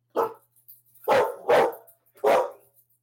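A dog barks four times in an uneven rhythm, loud, mid-pitched woofs, with a short gap after the first and the last three coming closer together. No one speaks.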